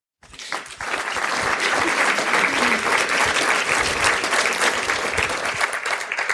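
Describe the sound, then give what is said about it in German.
Sustained audience applause for MQ Goes Green at a certified Green Event, after a discussion: dense, crackling clapping from many hands that swells in within the first second and holds at a steady, loud level throughout, with no talking over it. “Ja, Applaus nicht nur für MQ Goes Green, sondern auch, dass wir hier eine entsprechende Kühlung nach einer spannenden Diskussion bekommen.”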